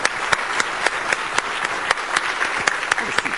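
A crowd claps steadily throughout, a dense wash of applause with a few sharper, louder claps standing out near the listener, continuous and moderately loud with no talking.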